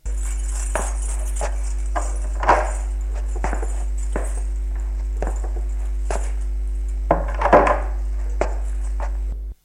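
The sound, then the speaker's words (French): A father opens the door of a fourth-floor apartment in a building near the Gare des Brotteaux: a series of sharp clicks, knocks and rattles at uneven intervals, with a busier burst of handling near the end, all over a steady low hum. “Le père ouvre la porte de l'appartement de droite.”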